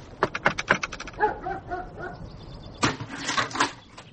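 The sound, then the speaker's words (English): A dog lets out a quick series of sharp barks, then a few high, wavering whimpers, before breaking into another burst of excited barking. “He's been a good dog.”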